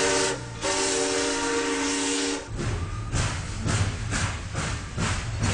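A steam train's whistle blows a steady, breathy tone for about two seconds, then gives way to the loud, rhythmic chuffing of the engine pulling away. No one speaks.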